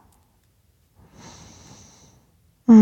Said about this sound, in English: No, I told you. I'm not tired. I promise the yawns are just more oxygen, remember? I'm not falling asleep.